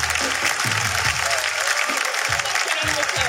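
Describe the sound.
Steady audience applause fills the whole stretch, a dense, bright wash of clapping at a constant loud level, with some low voice-like murmurs underneath.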